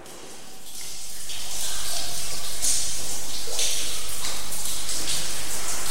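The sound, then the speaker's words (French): Steady rushing and trickling of a small underground river flowing in a cave, with a bright splashy hiss, unbroken, with faint scattered drips as water also flows from the ceiling, and no speech. “on est devant une rivière, une petite rivière qui coule.”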